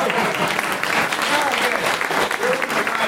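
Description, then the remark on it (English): An audience bursts into steady, loud applause, a dense wash of many hands clapping at once that holds its level for a few seconds without letting up. “I always know I'm in the right crowd when that gets the applause line.”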